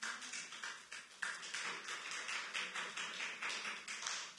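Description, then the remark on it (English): A crowd claps steadily, a dense wash of overlapping hand claps with bright, crackly texture that swells slightly in waves and holds at a fairly even level throughout, with no voices. “I think the people clapping the loudest are the ones that have some of the most experience with the word of God.”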